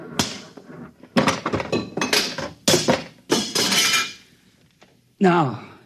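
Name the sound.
machine being smashed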